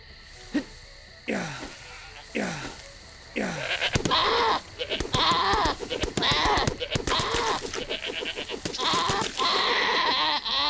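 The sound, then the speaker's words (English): Video-game goats, hunted by the player for food, bleat again and again, a few separate calls at first, then a dense, loud chorus of overlapping bleats that carries on to the end. “We need to kill goats.”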